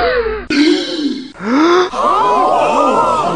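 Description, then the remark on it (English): A quick series of loud gasps, one after another, with the last stretch sounding like several voices gasping together in shocked, drawn-out breaths. No words are spoken. “You may well gasp”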